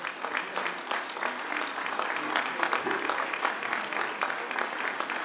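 Steady audience applause at a concert, a dense patter of many hands clapping at a fairly even loudness for several seconds, with no one speaking over it, given for a local bandoneon player who is in the audience.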